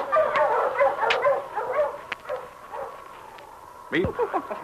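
dog barking and yipping

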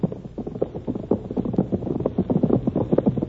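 horses galloping hoofbeats

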